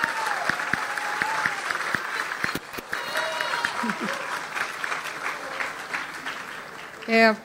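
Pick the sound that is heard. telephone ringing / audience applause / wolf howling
audience applause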